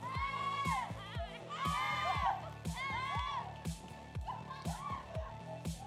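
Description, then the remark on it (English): Several young girls' voices chatter, shriek and squeal together in a lively jumble as they laugh, scream and play games at a girls' home, with rising and falling high-pitched calls over a steady rhythmic thumping in the background. “Our homes are safe places where girls can laugh and scream, play games, and simply enjoy doing life with their sisters.”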